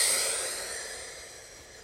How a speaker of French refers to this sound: Inspirez profondément pour vous dynamiser. Soufflez fortement.